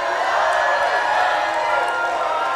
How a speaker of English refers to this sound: Hallelujah! Hallelujah! Come on, we ought to be shouting louder than that. Come on.